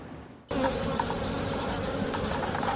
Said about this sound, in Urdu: دو سال پہلے انہوں نے یہ کاروبار چار ڈبوں سے شروع کیا تھا, مگر اب ان کے پاس شہد کی مکھیوں کے نو ڈبے ہیں جن میں مکھیاں شہد کے چھتے بناتی ہیں.